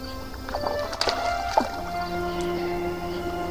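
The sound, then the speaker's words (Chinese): A wooden boat rocks on the waves of a dark sea, its timbers creaking and groaning in drawn-out tones over a steady wash of water, with a few sharper knocks near the start. “海面黑漆漆的，尽头还有一丝亮白，天边几颗星星闪烁起他调皮的眼睛，船在海上随着海浪荡漾航行。”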